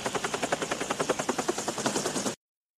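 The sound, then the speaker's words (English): A helicopter's rotor thumps loudly in a fast, steady rhythm, with a broad whooshing roar beneath the beats, as it lowers a ladder for two people to grab, before the sound cuts off abruptly. “And a helicopter lowers a ladder, and they both grab onto this ladder, and they lower them both to the ground.”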